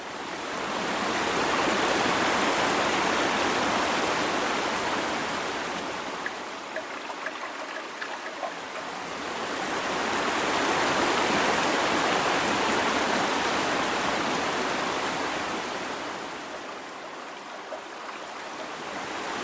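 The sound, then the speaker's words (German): Ocean surf rolls in as steady, broad hissing noise that swells loudly and then recedes, two long wave surges with quieter lulls between them. No voices are heard. “Und deshalb möchte ich dir als vierte Alternative das Meeresrauschen vorstellen.”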